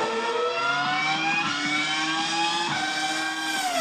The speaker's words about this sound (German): die Motoren röhren. Das Benzin explodiert. Die Reifen reiben ab. Das ist nicht jedermanns Sache.